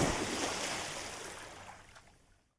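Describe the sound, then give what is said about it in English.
A big splash as Pete jumps into the water, a loud rushing burst that fades away over about two seconds into silence, with no voices. “Pete jumps into the water. Splash!”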